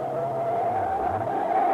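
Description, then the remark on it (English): A car brakes hard, its tires letting out a loud, steady high-pitched squeal for nearly two seconds, with a low engine rumble underneath and no voices. “Stop the car, Pat. Hold it.”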